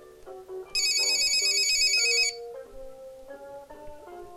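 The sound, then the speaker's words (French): A telephone rings in one loud, trilling burst lasting about a second and a half, heard by Petit Ours Brun as he plays in his bedroom, over a light, gentle melody that plays before and after it. No one speaks. “Petit ours brun joue dans sa chambre et il entend le téléphone.”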